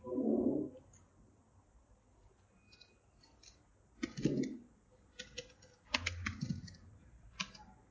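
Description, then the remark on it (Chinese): Keys clatter on a computer keyboard in short, irregular bursts of clicks as someone types out text again and again, with a few duller thumps mixed in and quiet pauses between. No one speaks. “我一直在打字啊，我打了好几遍呢。”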